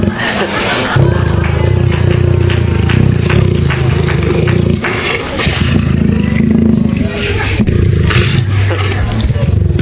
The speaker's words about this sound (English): And one of my favorite growls is that of a Jaguar. Not the car, mind you.